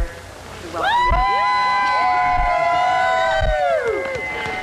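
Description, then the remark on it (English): A loud crowd roars and cheers for a musher arriving at the 2014 Iditarod sled dog race finish in Nome, with many overlapping high voices rising together into a sustained wall of whooping and shouting lasting several seconds. “a big cheer from the crowd.”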